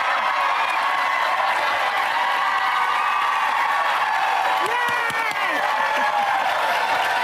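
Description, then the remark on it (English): A loud, sustained wall of crowd noise: cheering and applause blend into a steady roar, with scattered whoops and shouted voices rising above it throughout. “And the crowd goes wild for news that never happened, because it never happened.”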